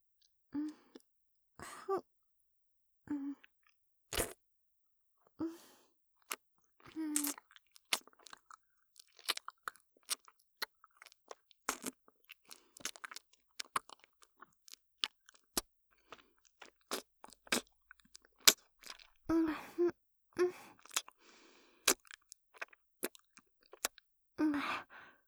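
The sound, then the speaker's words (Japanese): Wet chewing and crisp crunching of food in irregular bursts as someone is fed food into their mouth like a baby bird, with sharp clicks and smacking mouth sounds scattered throughout and no talking. “それじゃ、またママが親鳥になって僕ちゃんのお口の中に餌を運んであげまちね。”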